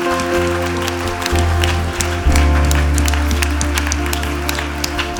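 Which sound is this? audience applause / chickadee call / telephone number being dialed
audience applause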